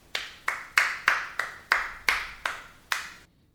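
A single person claps their hands nine times at a steady, brisk pace, each sharp clap distinct with a short decay, and no voices present.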